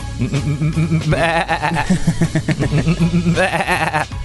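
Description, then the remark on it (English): Several sheep being herded by someone with a crook bleat over one another in a steady, wavering chorus. The loud, quavering calls overlap almost continuously, with a few higher, strained cries rising above the flock. “Somebody's there with a crook and they're just herding the sheep.”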